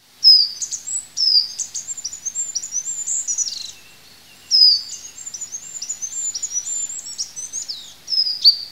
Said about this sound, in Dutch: Een ander leuk voorbeeld is misschien zoiets simpels als de roep van het goudhaantje. Dat is een klein vogeltje die in de heg zit. En die piept zo hoog dat mensen met slecht gehoor het hem gewoon niet meer horen.